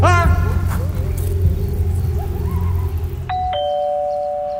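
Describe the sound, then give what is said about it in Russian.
A doorbell rings with a clear two-note ding-dong chime near the end, following several seconds of low, steady rumbling background noise; the chime's lower note rings on and fades. “дверь откроешь, пожалуйста? Кто там пришел?”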